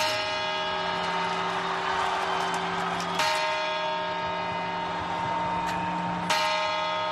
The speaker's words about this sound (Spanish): Las campanadas, comienzo del año 2025, es el momento más visto de la televisión en todo el año.